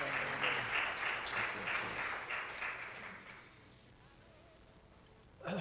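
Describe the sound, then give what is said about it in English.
An audience breaks into applause for a preacher as he comes up on Father's Day, a dense, steady patter of many hands clapping that holds for about three seconds and then gradually thins and fades away, with a brief bump of sound at the end. “Let's give him a round of applause as he comes.”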